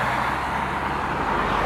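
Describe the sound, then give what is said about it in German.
Road traffic rumbles steadily, the broad whoosh and engine drone of cars moving past, holding an even, fairly loud level throughout with no voices. “Ganz schön viel Verkehr.”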